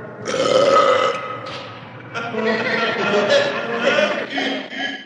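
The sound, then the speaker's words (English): A long, loud, drawn-out belch rumbles for several seconds, dipping briefly before surging into a second gravelly stretch. No one speaks. “They never question the fact that he picks his nose or belches or, you know, says horrible things.”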